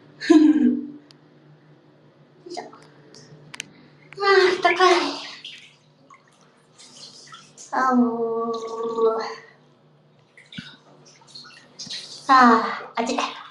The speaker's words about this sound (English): There's still some hot water flowing in.